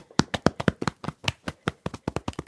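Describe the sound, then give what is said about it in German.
Quick, steady thumping of fists drummed on one's own chest, about eighteen dull beats in a fast alternating rhythm, with no voices. “Balle deine Hände zu kleinen Fäusten und trommel mal auf deiner Brust.”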